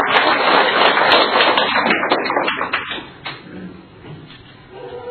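An audience breaks into dense, steady applause to welcome a guest, holding strong for about three seconds, then thinning out into scattered claps and fading to a low murmur.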